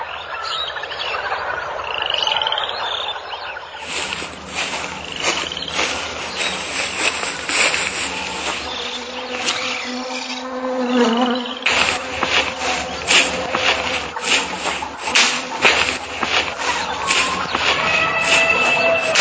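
A dense jungle soundscape of croaking frogs and buzzing, chirping insects, with repeated pulsing calls layered over a steady high-pitched drone throughout.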